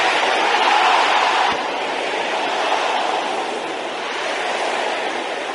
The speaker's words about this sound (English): By the power! In the blood of Jesus, I chase every infirmity out of my body. Can I hear you shouting that? Can I hear the sisters shouting it? Can I hear the brothers shouting the same thing?